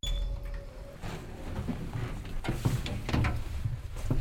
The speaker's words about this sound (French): C'est l'ascenseur, heureusement qu'ils l'ont mis.